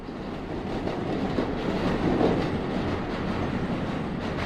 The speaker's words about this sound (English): I stood in the living room looking at the stacks of boxes and listened to the sounds of the BQ train, which ran, uncovered, right behind our apartment building. I could see it out the window.